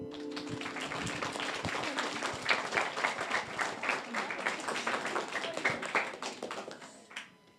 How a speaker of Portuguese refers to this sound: Un aplauso.